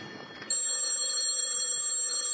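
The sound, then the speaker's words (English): A telephone bell in Lieutenant Clover's office starts ringing abruptly after a brief quiet moment, a bright, steady metallic jangle that rings continuously and fairly loudly to the end, with no one speaking. “Telephone's ringing”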